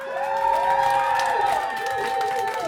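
An audience applauds and cheers in a steady, dense wash of clapping, with shrill whoops and whistles rising and falling above it for about three seconds.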